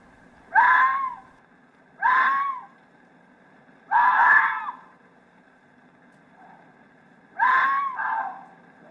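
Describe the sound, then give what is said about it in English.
A male and a female fox scream during mating: four loud, harsh, wailing shrieks, each about a second long, separated by pauses of quiet night air, with no talking. “A fox, in fact. A male and a female. In this case, locked in what appears to be a rather painful act of mating.”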